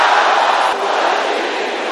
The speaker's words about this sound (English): Powers judging me in the dark. Can I hear somebody shouting that loud?